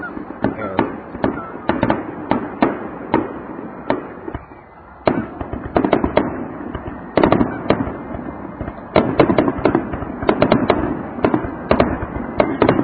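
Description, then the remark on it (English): Rapid volleys of firework bangs and crackles burst outdoors in irregular clusters, some close and loud, others slightly distant, with a few pauses between barrages. “What other radio program brings you fireworks?”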